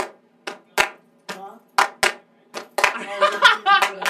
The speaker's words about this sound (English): We need to clap first. Alright, we'll do a clap track and then. I like that clap though.